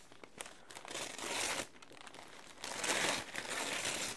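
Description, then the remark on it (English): Birthday present wrapping paper being crumpled, a steady crackling rustle that swells into two louder bursts of crinkling before settling back, with no one talking. “Birthday present paper is so cute.”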